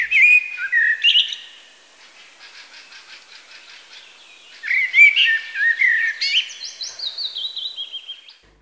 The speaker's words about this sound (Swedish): Koltrasten, Sveriges nationalfågel, faktiskt får inleda romantipsen.